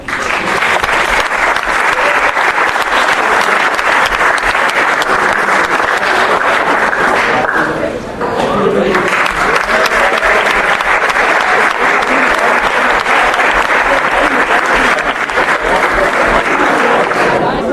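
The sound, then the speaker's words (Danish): A large audience applauds themselves in congratulation, loudly and steadily, a dense wash of clapping that holds for about eighteen seconds, dipping briefly midway before swelling back to full strength. “Så giv jer selv en stor hånd, og endnu en gang tillykke med det.”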